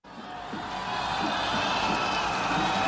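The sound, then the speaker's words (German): A dense, sustained roar of tens of thousands of people cheering outdoors at a political rally on a square in Warsaw, Poland, as a candidate steps onto the stage, steady and loud throughout, with scattered shouts and whoops rising out of the wash of noise. “Zehntausende jubelten Rafał Trzaskowski zu, als der 55-jährige Kandidat der regierenden liberalen Bürgerplattform letzten Sonntag auf einem Warschauer Platz auf die Bühne trat”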